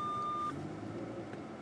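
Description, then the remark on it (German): A car's parking sensor sounds a steady, unbroken beep for about half a second while the car is reversing, then cuts off, leaving the low rumble of an idling engine. “Ist zu piepsen und dann noch 7 Meter.”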